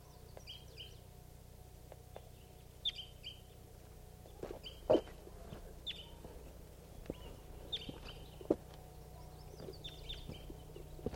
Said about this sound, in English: Recording a crossbill just got here. Didn't call coming in.